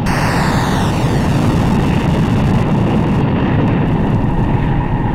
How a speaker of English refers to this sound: Five, four, three, two, all engines running. Launch commit, liftoff. The tower is clear.